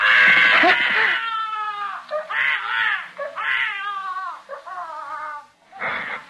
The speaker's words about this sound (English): That's the most frightened I ever was in my life. When a kid started to yell. Because in the first place, I didn't know what it was right away. And in the second place, I thought, he'll wake up everybody in the apartment